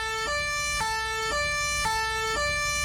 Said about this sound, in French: On peut dire ça réveille, en tout cas les sirènes, vous avez peut-être reconnu des voitures de police, ça lui plaît pas du tout à Mélenchon.